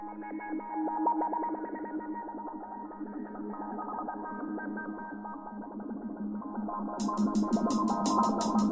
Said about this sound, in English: We missed the beginning of the Morse. But I re-resurrected one of my old jingles.